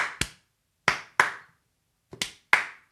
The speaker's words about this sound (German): In tiefer Demut und Dankbarkeit an die K. aus M. in Klammer steht auf und klatscht langsam.